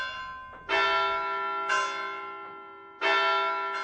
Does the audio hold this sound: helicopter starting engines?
no